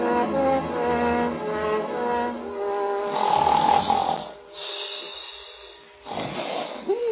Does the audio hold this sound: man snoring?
yes